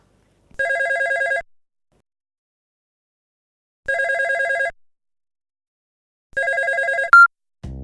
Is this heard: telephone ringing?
yes